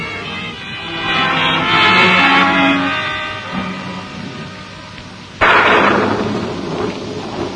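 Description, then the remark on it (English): Steady rain pours outside at dawn with a broad hissing wash, low rumbling swells like thunder, and a sudden louder burst midway as the downpour intensifies. “And then suddenly you're aware of a sound outside. You leap out of bed and hurry to the window. Rain. It's raining.”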